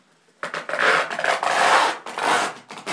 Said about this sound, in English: So I looked around and we've got tons of masking tape. So that's what I'm currently doing. The great thing about masking tape is, it does stick, but it doesn't really stick down too much, so it's easy to rip off.